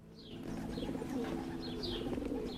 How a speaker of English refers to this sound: These are Bassam's birds.